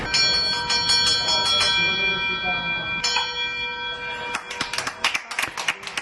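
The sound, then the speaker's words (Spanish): A patient strikes the 'bell of dreams' at the Regional Hospital of Málaga with a hammer twice, about three seconds apart, marking the end of cancer treatment; each strike rings out with a long, bright, sustained tone. Scattered claps and murmuring voices follow at the end. “Manuel coge un martillo y hace sonar la campana de los sueños, instalada en el Hospital Regional de Málaga”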